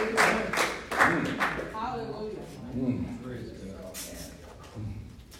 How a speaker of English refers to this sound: Come on, give him a round of applause in the house of the living God.